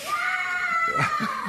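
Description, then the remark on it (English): A small child in church lets out a long, high-pitched scream that holds steady for over a second, loud, with faint murmuring voices underneath toward the end. “I've got to tell you, though, I'm so thankful for noise like that.”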